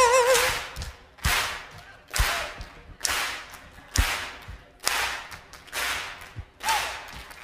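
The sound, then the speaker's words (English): Sharp, loud hand claps land in a steady beat, about one per second, eight in a row, with a faint wavering tone sounding faintly underneath. “All we need are some hand claps for people who just need a beat.”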